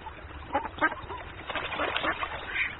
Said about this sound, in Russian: Смотрит, на лугу ручеек протекает, на воде две утки плавают.